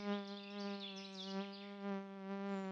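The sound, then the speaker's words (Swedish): Mosquitoes whine in a steady, continuous buzz that wavers slightly in pitch and loudness as they swirl around a person's hands and fly toward the face; no voices. “Jag irriteras av myggorna som virvlar runt mina händer och flyger mot mitt ansikte.”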